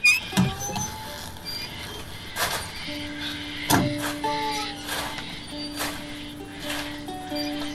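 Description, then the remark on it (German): A windmill squeaks steadily, with drawn-out, whining tones that hold and waver, broken by a few sharp rattling bursts of mechanical noise. No one speaks. “Und ja, aber jetzt haben wir hier das Windrad, das quietscht wunderbar vor sich hin.”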